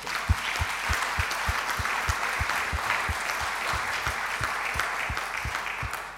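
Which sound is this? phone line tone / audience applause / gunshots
audience applause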